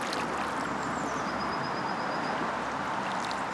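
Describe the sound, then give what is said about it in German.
On a bridge around a lake, steady, rushing lake water fills the scene over a low background rumble, while a thin, high bird whistle glides briefly through the middle; people and cars are also around. No one speaks. “Wir sind auf einer Brücke um den See herum. Wir hören das Wasser, Vögel, Leute und Autos.”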